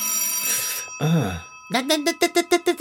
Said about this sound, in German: Nein. Denke nicht einmal daran, ans Telefon zu gehen. Anrufe anzunehmen ist das Gegenteil von Nichtstun.